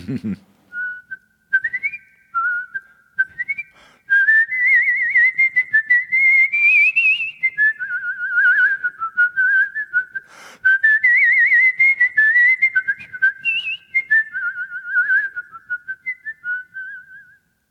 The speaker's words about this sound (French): Franchement, j'ai rarement entendu quelqu'un siffler aussi bien que ça.